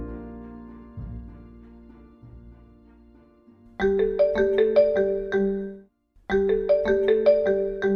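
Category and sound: signal or alarm, mobile phone ringing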